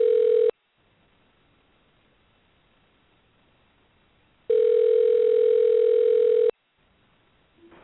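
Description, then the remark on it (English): A telephone dial tone sounds while a call is placed: a steady, loud electronic hum that cuts off briefly, pauses in near silence for several seconds, then returns for about two seconds. No one speaks. “Now I learned how to work this phone system on here.”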